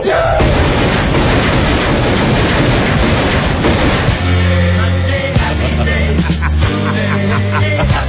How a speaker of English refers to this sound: I think the scene just ends with Sam Jackson shooting the guy. So this would be our first gunfire.